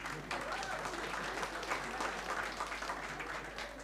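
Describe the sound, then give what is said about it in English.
An audience applauds steadily, a dense wash of many hands clapping at an even, sustained level for several seconds with no pauses or swells. “I think we should give them a clap, really.”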